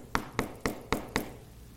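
Five crisp knocks on a door, evenly spaced in a quick steady rhythm, clear with nothing else going on around them.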